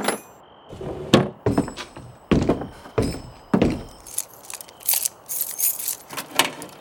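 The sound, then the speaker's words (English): Rummaging through the top desk drawer for a key: a series of wooden thunks and knocks from objects being shoved around, with light metallic rattles and jangles mixed in, irregular and busy, with no voices. “Look at the top desk drawer out yonder. Andy rummaged around and found it.”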